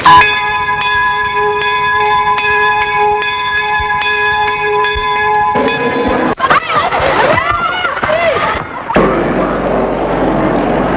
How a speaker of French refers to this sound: La cloche a retenti. Il faut rejoindre sa classe. Aujourd'hui, dernier jour d'école.